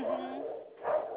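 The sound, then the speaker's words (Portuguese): Dogs bark in two quick bursts about a second apart, muffled, with a narrow, tinny quality as if heard over a phone line. “Olha só, estão latindo, por nada.”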